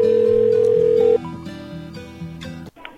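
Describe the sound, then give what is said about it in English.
A telephone line rings on an outgoing call to a Subway restaurant: a steady electronic tone for about a second, then tonal, music-like sounds carry on over the line before cutting off abruptly. No one speaks. “Let's call it.”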